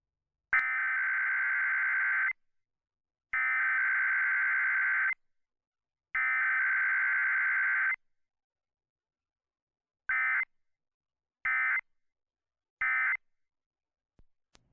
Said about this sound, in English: I would like to personally apologize for the person who set their alarm for 7:20. I mean, wake up.